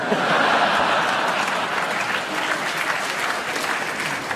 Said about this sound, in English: I don't know why the audience applaud that.